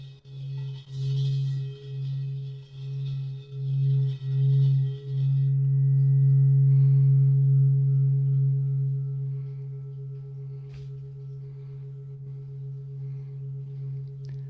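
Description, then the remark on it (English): A singing bowl hums with a deep, steady ring, pulsing and wavering as it's rubbed, then swelling into a loud sustained tone that slowly fades. A faint scraping hiss accompanies the early strokes. “And may the community of all beings arise from this hum, and they go, ah.”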